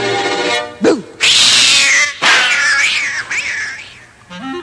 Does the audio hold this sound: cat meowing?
yes